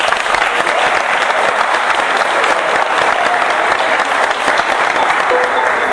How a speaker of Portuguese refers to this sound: Você é uma salva de palmas,